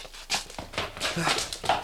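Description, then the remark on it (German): A dog, Timmy, whimpers and whines in a run of short, high-pitched cries, with breathy panting between them, moderately loud over a soft background, wanting to go through the door to the spiral staircase. “Timmy will durch die Tür zur Wendetreppe, wie es aussieht.”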